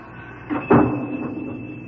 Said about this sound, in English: Grandpa's gone now. Yeah, I hear the door. And I thought he never would go.